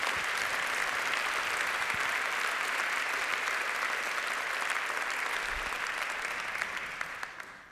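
Sustained audience applause welcoming a speaker before her talk on censorship and surveillance in Iran, a dense wash of many hands clapping at steady volume for several seconds before tapering off near the end, with no one speaking.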